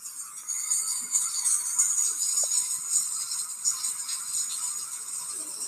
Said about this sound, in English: Come take a shower with me.